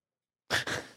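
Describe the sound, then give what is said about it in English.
Heavy breathing: after a moment of silence, two loud, breathy rushes of air follow one another quickly, the second trailing off slowly. “I told y'all with the breathing.”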